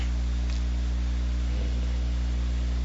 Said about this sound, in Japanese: ザーってノイズじゃなくて雨なんだ、ね、普通のノイズか雨の音なんだ、区別できない。そうやろ、すんごい降ってるぜほんまに。